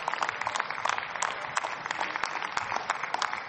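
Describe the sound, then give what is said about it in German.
Steady applause from a large crowd in parliament before a speech by Die Linke parliamentary group leader Dr. Dietmar Bartsch, a dense patter of many hands clapping with no pauses, fairly loud and even throughout, with a faint murmur of voices underneath. “Sehr geehrter Herr Präsident, meine Damen und Herren, selten so viel Beifall vor einer Rede bekommen.”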